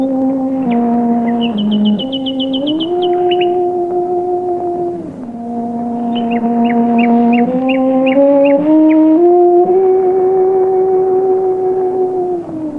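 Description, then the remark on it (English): A cello plays slow, sustained bowed notes while a nightingale sings above it in quick bursts of repeated trills and chirps, in a wood in Surrey, England, in 1924. It sounds like an outdoor recording with no voices. “Beatrice Harrison played her cello in a Surrey wood, accompanied by a nightingale”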